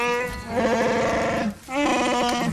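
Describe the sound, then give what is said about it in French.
A Wookiee's characteristic cry from Star Wars: two loud, warbling, throaty howls with a bleating quality, the first long and wavering, then a brief pause before a second, shorter yowl. “Poil, Wookie, arbalète et même ce cri tellement caractéristique.”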